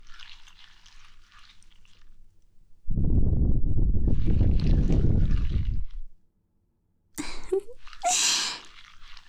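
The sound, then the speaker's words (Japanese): A teacher's breath is blown straight into a microphone: a long, loud, rumbling gust of air, a brief silence, then two shorter, hissier puffs. No one speaks, and a faint airy hiss comes before the blowing. “先生の魔法の吐息、気持ちいい？”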